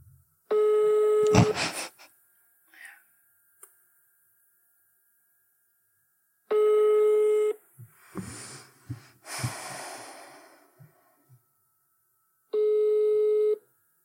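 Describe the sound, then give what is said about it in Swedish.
A phone ringback tone buzzes three times, each burst lasting about a second and spaced several seconds apart, with soft breathing and small rustling noises in the quiet gaps between rings. “Ja, då ringer vi.”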